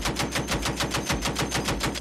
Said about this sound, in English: Sticking in the danger zone, we have another classic sound from the Loudest Heck playbook, gunfire.